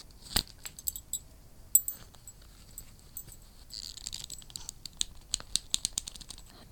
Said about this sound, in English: But more often than not, the first sound I hear, it's the tiniest clink of metal before the creak of leather being wrapped in a fist.